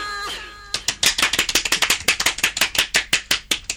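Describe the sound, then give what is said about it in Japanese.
A short, high tonal sound opens, then loud, steady hand clapping takes over: a quick, continuous run of sharp claps for about three seconds with no talking. “前も拍手したよね”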